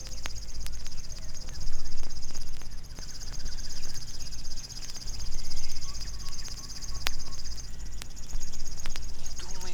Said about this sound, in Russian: Стрекочет кузнечик. Это песня камышовки. Птица очень осторожна, и увидеть ее нелегко. Зовут ее речным сверчком.